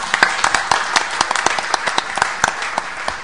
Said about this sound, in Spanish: quiero liberar a las señoras ministras que por un tema de agenda tienen que seguir, así que les agradecemos su presencia y pido un aplauso para ellas.